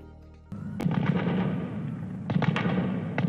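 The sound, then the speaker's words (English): Sustained bursts of automatic gunfire crackle, echoing with a rolling reverberant tail and punctuated by several sharper, louder shots, as gunmen dressed as medics storm a hospital in Kabul, Afghanistan, and battle security forces; no voices are heard. “Gunfire echoed through Kabul as gunmen dressed as medics stormed a hospital in the Afghan capital today and battled security forces for hours, killing more than 30 people and wounding dozens in an attack claimed by Islamic State.”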